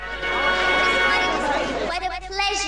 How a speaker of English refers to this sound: It's welcome to Nass House Fair. The gates swing open and a big crowd heads in.